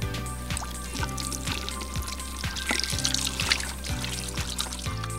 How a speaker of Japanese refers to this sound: まずは水で手についた菌をしっかりと流すことが大切です。 わかりました。じゃあまず先に水で手を流したいと思います。